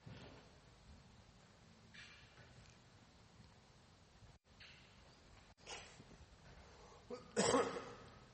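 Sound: sneeze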